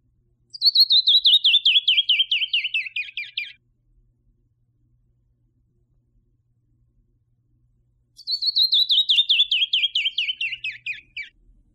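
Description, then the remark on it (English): A canyon wren sings its cascading song twice, each a rapid series of clear whistled notes sliding down the scale over about three seconds, separated by a long silent pause. “the haunting sounds of the canyon wren”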